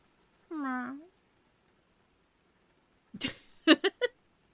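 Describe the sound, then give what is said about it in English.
A person does a single short, drawn-out meow imitating a cat, clear, then after a pause come a few quick breathy vocal bursts. “Meow.”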